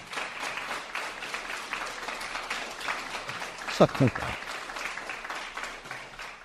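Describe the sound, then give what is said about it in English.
An audience applauds steadily, a dense wash of many hands clapping throughout, with a couple of louder whoops or shouts breaking through near the middle. “I can't remember being clapped ever in that same.”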